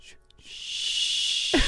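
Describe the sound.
A voice imitates a slow train, the Harry Potter train, with a long, breathy steam-like hiss that swells and holds steady, ending with a brief low rumble.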